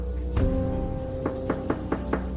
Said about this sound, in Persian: وسط همین فکر و خیال بودم که دیدم صدای تق تق میاد از در همون.